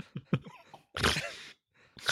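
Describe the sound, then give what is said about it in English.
A person gives a loud snort: a harsh, noisy nasal burst lasting about half a second, preceded by a few short throaty grunts and followed by another sharp breathy burst. “You hear me snort just now?”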